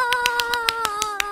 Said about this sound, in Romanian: Aici unul dintre cobai aplaudă. Bravo, bravo, bravo!